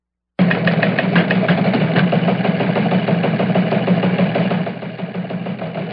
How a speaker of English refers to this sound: Well, the teletype machine is going off, which means we have some important news coming on Chauncey's Great Outdoors.